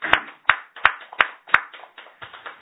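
A small audience at a Konkokyo worship gathering on April 4 claps to celebrate someone's 17 years of practice: five sharp, evenly spaced claps lead off, then softer, scattered claps trail away over a couple of seconds, with no voices.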